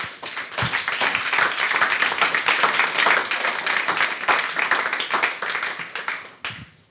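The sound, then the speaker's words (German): Sustained applause from an audience welcoming three panel guests to the front, a dense, steady patter of many hands clapping for about six seconds before fading out quickly at the end. “die Sie jetzt bitte mit einem herzlichen Applaus hier vorne begrüßen.”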